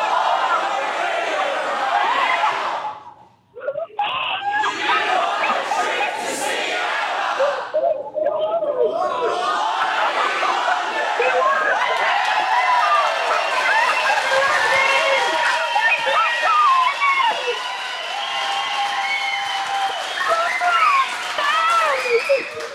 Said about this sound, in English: It sounds like she's got a live crowd at her end too.